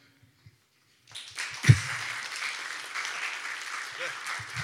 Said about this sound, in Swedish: Och som sagt, han har ju en svaghet för applåder. Jo, men är det här för hans självbild? Så gärna en applåd nu.